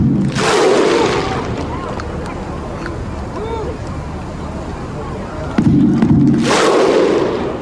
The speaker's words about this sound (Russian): Я не знаю, сколько здесь тысяч на этой площади. Да, они стоят на площади, хлопают под барабан. Огромное количество людей.